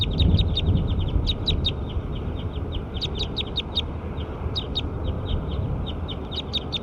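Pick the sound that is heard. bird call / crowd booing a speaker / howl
bird call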